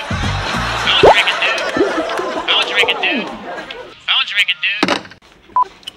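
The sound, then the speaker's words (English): Short electronic keypad beeps from a phone being dialed, mixed in with overlapping chatter and giggling voices; a brief single tone stands out near the end. “Pick up the damn phone.”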